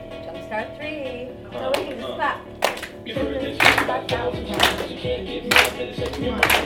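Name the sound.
people clapping along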